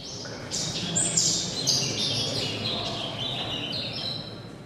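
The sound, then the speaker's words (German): Rapid, high-pitched chirps and warbling trills, like a birdsong sped up, come from a voice imitating a bird. The sound is continuous and fairly close over a steady background hiss. “Die Personen auf den Videos hörten über Ohrstecker den Gesang je einer bestimmten Vogelspezies in”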